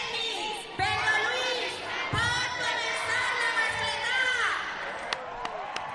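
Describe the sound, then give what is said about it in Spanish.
A large, emotional audience in the Plaza de los Luceros gives a sustained ovation, heard live: a steady wash of cheering, overlapping shouts and high calls, with a few sharp thumps breaking through the continuous roar. “Y la este verdad, es el aplauso del público emotivo. En la Plaza de los Luceros, en directo. Ovación cerrada, sin duda alguna.”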